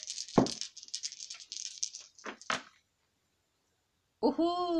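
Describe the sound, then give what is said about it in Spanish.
The same dice are rolled again in a game, rattling in a dense, bright clatter for about two and a half seconds, then everything goes quiet before a voice begins speaking. “Adivinen qué, los mismos dados.”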